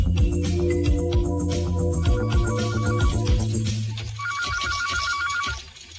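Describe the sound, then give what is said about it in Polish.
A telephone rings for a call from Brazil with a repeating electronic trill, sounding twice over a busy, continuous music-like backdrop; no one speaks. “Telefon odebrała”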